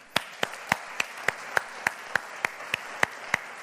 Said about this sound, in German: Ich möchte einmal, dass wir den Familien einen dicken Applaus geben, wir als Gemeinde.